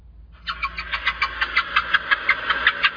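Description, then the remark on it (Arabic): A car engine runs steadily while driving past orchards, a low rumble under a brighter mechanical whir that pulses in a quick, even rhythm. It is moderately loud, with no voices. “هنا هو فرحان جدا وسعيد بين أصحابي، هو معهم في السيارة يمرون على البساتين.”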